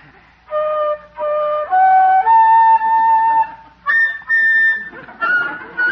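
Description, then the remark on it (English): A lone voice warbles the Blue Danube waltz off-key, holding long, wavering notes that step up and down with short breaks between phrases, fairly loud. “Judge, you sound like a hungry seagull.”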